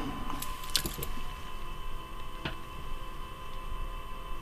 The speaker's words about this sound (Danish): Og nu skal vi se en gang. Jeg skal lige ordne mine papirer.